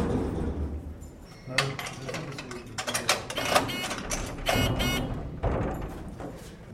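Heavy prison security doors and airlocks clank and grind as people pass through them, a steady run of metallic bangs, latches and rattles over a low mechanical hum, growing busier after the first second or so.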